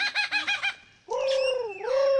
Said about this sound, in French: À l'ombre des eucalyptus, un oiseau répète son tour de chant. Un magnifique oiseau lyre, aussi appelé ménure superbe.